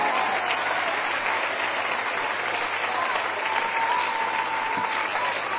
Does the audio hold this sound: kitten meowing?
no